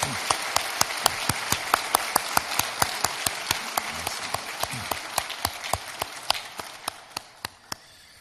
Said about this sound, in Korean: 뜨거운 박수로 저분들을 환영하도록 하겠습니다.